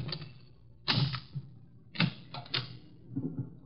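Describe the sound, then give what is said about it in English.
A skeleton key scrapes and clicks in a locked door's lock, with several sharp metallic clacks and rattles spaced unevenly over a few seconds, fairly quiet, no voices. “He's reformed, so he gave me all his skeleton keys.”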